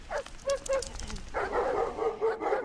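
Dogs bark in a quick string of short, sharp yaps, then break into a more continuous, whiny run of yelping barks. Fairly close and moderately loud, with no talking.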